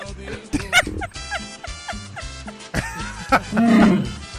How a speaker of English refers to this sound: There's a Wookiee in space.